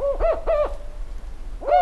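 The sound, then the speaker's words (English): A northern spotted owl hoots clearly: three quick rising-and-falling notes, a short pause, then a fourth note, with no voices and only a faint background hum. “Last week, Lauren Summer reported on the declining population of northern spotted owls.”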